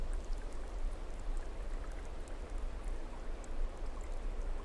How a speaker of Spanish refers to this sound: Muy poco a poco dejas que el agua que cae con fuerza pura de esa montaña comience a limpiarte.